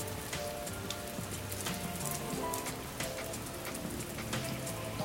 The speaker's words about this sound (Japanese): すごい雨ですね。